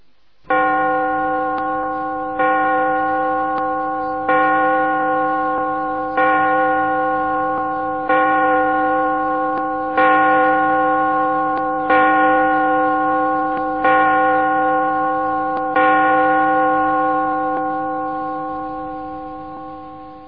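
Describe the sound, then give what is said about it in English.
A clock chimes about nine times in a steady, even rhythm, each loud, resonant bell strike ringing on and overlapping the next, with no voices. “Listen to the clock.”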